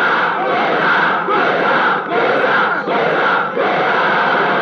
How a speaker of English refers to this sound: Elsewhere in Lagos, at an open field, 8,000 Nigerians gather for a protest rally.